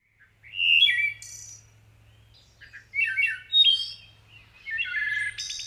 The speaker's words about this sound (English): Over the decades, the call of the wood thrush has meant the arrival of spring to the woods of Maine. It's just one of the species, however, experiencing sharp declines.